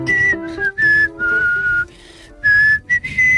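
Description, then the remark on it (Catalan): A person whistles the melody of Els Segadors in clear, sustained notes that rise and fall, broken by short pauses between phrases, fairly loud with no talking. “I tampoc cal que ens xiuli tot el cant dels segadors, ara,”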